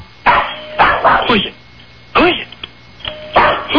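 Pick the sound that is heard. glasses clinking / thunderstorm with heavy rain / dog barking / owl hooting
dog barking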